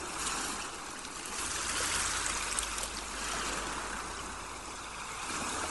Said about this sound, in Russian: Все пространство вокруг вас наполняется шумом прибоя, шумом морской волны.